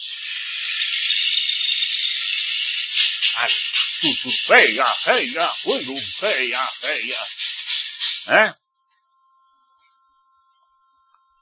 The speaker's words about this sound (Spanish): Con respecto al bastón de lluvia chileno, ¿no lo oís? Pues podíais poner a bailar. Ahí no mete tanto ruido ahora.